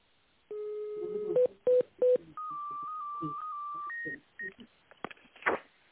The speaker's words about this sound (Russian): Здравствуйте. Вас приветствует компания Вивтех. Наберите внутренний номер сотрудника в тоновом режиме или дождитесь ответа секретаря.